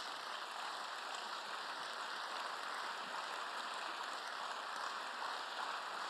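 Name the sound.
audience applause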